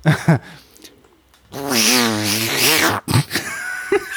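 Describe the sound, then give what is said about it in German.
A person vocally imitates an attacking cat with a loud, drawn-out, wavering yowl lasting about a second and a half, framed by a few short, clipped vocal bursts before and after. “Das ist eine sehr lustige Katze, die angreift.”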